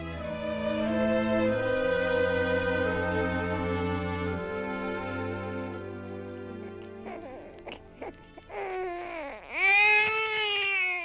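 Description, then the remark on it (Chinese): Sustained, droning tones fill most of the stretch, then a healthy newborn baby boy bursts into a loud, rising wail near the end, with a few brief fussy whimpers just before it. “你生了个儿子，一个完美健康的婴儿啊。”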